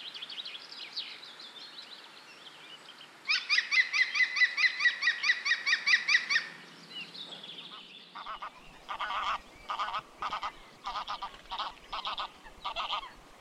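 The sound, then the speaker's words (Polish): A goose honks in a rapid, repeated series, followed by a second run of loud, choppy honks in short bursts, with no talking. “Gęś. Gdy mówimy o niej, zapewne mamy na myśli gęś domową lub gęgawę.”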